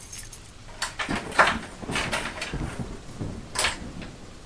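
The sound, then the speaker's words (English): Keys jingle and a latch clicks as the front door of a house is opened and then shut with a few knocks and scrapes, steady rain hissing softly in the background. “I got the door. Just a sec.”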